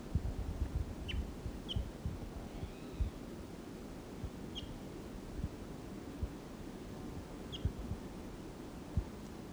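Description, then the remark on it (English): A wild bird somewhere in the trees calls in short, high chirps, four or five spaced irregularly, fairly faint over a steady low rumbling background noise. Nobody talks. “Now it's about 20 minutes later and he's still here in the trees somewhere. Stop. There's that wild bird.”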